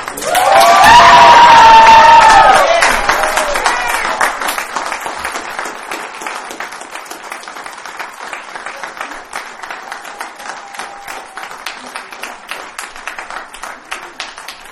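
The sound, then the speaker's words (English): An audience at a Narcotics Anonymous camp out bursts into loud cheering and whooping for a speaker, then settles into steady, sustained clapping that continues at a slightly lower level until the end. “Some applause for our speaker and for everybody that made this camp out possible.”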